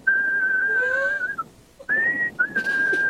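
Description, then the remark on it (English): A person whistles an imitation of a bird call: a long, steady high note that breaks off, then a pause and two more sustained whistles, one sliding slightly upward, with no talking. “Oh, just a quick whistle, and then I'll let you go. I just need to know what these birds sound like.”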